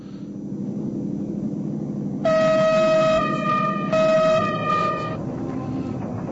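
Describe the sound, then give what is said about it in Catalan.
A loud electric locomotive horn sounds in two sustained chord blasts with a short break between them, over a steady low rumble of the train. “Aquest sona diferent, Paco. Això és una màquina elèctrica.”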